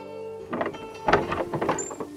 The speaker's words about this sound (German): öffnet die Tür.